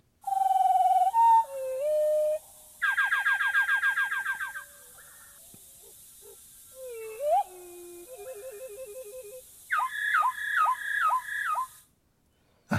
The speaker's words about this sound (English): And if we can listen to, I think it's 1/4 speed of the wood thrush, you're going to hear things that to our ears just sound very melodious, but it's incredibly complex and very eerie.